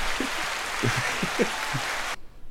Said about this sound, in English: Hey, y'all. Give her the hand claps. Yeah.